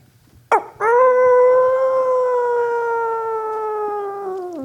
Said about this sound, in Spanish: Claro, al ver que lo que había ocurrido, me llevé un buen susto y empecé a gritar. ¡Ah! Tan aterrador, pero en lugar de mi voz salió un aullido aterrador.